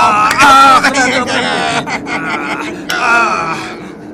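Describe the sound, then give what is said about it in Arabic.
A voice imitates a lion screaming in pain as a fox beats it: loud, continuous anguished wails and groaning cries that rise and waver for about four seconds, with a brief break before a final strained howl. “نعم أحبتي، راح الأسد يصرخ من الألم وتوالى زئير الأسد وزاد الثعلب في ضربه.”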